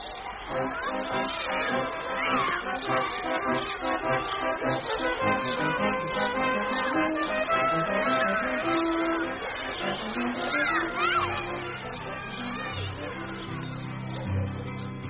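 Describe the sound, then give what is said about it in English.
A recorded song about the painter Lowry plays at a steady, moderate level throughout, with sustained instrumental accompaniment and a melodic vocal line carried over it. No one speaks over the music. “But this record really sort of sums it all up.”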